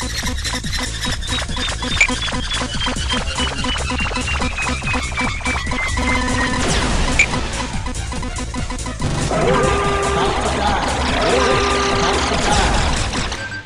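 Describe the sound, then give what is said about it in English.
Loud electronic video game warning sound signalling that the player is about to die: a high tone slides steadily downward over busy synthesized game noise, then shifts into a harsher, pulsing alarm-like pattern that runs to the end. “Now, you just heard a sound effect of warning about to die.”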